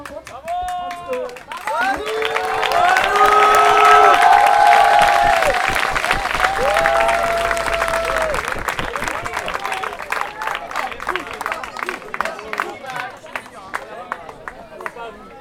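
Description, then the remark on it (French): An audience claps steadily for about fifteen seconds for les chimailles, with cheers and whoops rising over the applause early on. It swells in the first few seconds, then thins toward sparser clapping at the end. “On applaudit encore les chimailles.”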